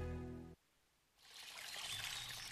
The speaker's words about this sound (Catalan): Així sona una bona hidratació. Així sona l'aigua del Parc Natural del Montseny.